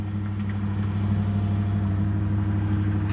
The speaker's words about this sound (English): I gotta walk by this truck here. It's the Kroger online delivery van.